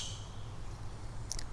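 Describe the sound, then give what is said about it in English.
Two quick, sharp calls from a blue jay ring out near the end, high and bright, over a steady low outdoor rumble with a faint fading note at the start. “I'm hearing a blue jay.”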